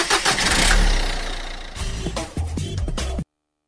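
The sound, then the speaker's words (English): A car engine cranks and starts up with a loud rumble, then settles into a revving, sputtering idle before cutting off abruptly after about three seconds. “Traffic.”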